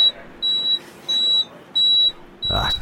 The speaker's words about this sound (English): I think I can hit the alarm with my shoe here. I've had a lot of practice at this.